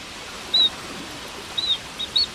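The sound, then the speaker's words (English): Harlequin duck calls: a few brief, high, squeaky whistles, one alone and then a quick cluster, rising over a steady hiss of rushing water. “harlequin ducks spend the cold winter months crashing through the surf along rocky coastlines.”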